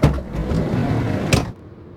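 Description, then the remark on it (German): A door shuts with a solid thud, preceded by a brief rattling rumble; after the closing impact everything drops to near silence. “Tür zu.”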